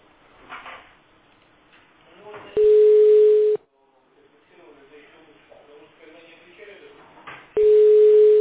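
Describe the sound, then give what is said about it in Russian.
A loud, steady low-pitched dial tone sounds twice from a telephone held in hand, each burst lasting about a second, with quieter murmuring voices and rustling in between. “А то они потом говорят, что мне никто не звонил, я держу телефон в руках.”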